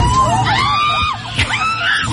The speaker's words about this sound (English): He gets up with a jacket and tries to grab the pigeon. He doesn't get it. It just kind of like, the pigeon kind of flies down and I think lands in somebody's lap, which is the person who was screaming.